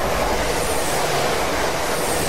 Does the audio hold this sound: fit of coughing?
no